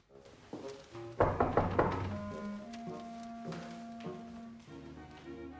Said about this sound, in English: Then, his smile evaporating, he turns to knock on the door.